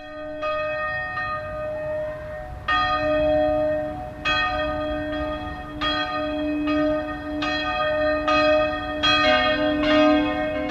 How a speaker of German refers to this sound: Eine Glocke nach der anderen fährt an, bis nach über einer Minute dann alle 11 Glocken vor Solothurner St. Ursen-Kathedrale zusammen läuten. Über einen Reif läuten, heisst der Brauch. Und er hat mit den 5 Eisheiligen im Mai zu tun.